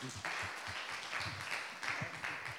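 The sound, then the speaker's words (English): A crowd applauds steadily for a speaker being introduced, a dense wash of many hands clapping at once, with faint cheers or voices mixed in underneath the sustained ovation. “So I wondered if you could give a massive round of applause to a very good friend of the family, an awesome speaker,”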